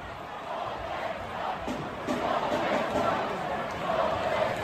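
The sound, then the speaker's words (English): A large hockey arena crowd of Arizona Coyotes fans at the team's season-ending game roars and chants "Salt Lake sucks" together, a dense wash of many voices sustained at fairly steady loudness, swelling slightly partway through, with no single clear speaker. “It turns out the Coyotes wrapped up their season last night, and the crowd went wild, not only for the Coyotes, but for their hate of Salt Lake City.”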